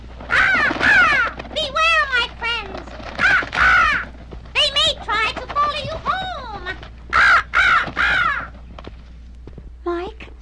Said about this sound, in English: There's that raven again.